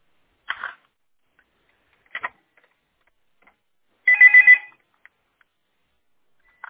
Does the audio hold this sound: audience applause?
no